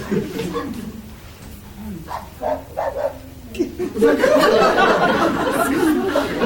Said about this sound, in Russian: Знаете, вы второй дом, где как только объявляешь животных, собаки начинали гавкать и поддерживать. Вы просто аж смеялись, когда за окном просто собаки гав-гав-гав-гав-гав.